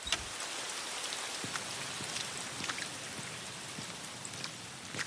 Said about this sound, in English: I walk out. Like in slow motion. Out into the lashing rain.